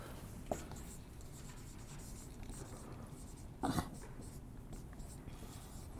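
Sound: pencil writing on paper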